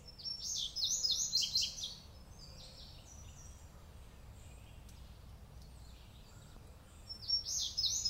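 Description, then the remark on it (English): A family group of five gnatcatchers, young just out of the nest and moving among small trees and big rocks, gives high, thin buzzy calls. These come in quick bursts at the start and again near the end, with fainter calls in between, over a low steady background rumble. “But five gnatcatchers moving among small trees and big rocks tells me it's a family group, young, just out of the nest.”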